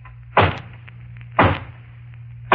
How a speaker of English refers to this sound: And then there's the hollow knock on the front door. I'll demonstrate that, too.